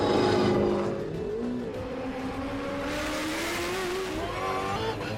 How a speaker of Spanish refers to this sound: El privilegio de disfrutar de la Fórmula 1 a pie de calle. No es la primera vez que los motores rugen en Madrid. El Gran Circo se traslada a IFEMA,